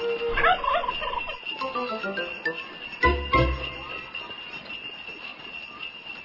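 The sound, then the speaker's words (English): Turkeys gobble in two loud, rattling bursts, one near the start and another midway, with quieter clucks and a faint metallic tinkle filling the gaps. “make sure you leave those turkeys around my house alone.”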